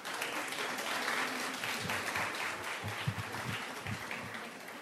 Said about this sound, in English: we want to give them a great round of applause for all their support.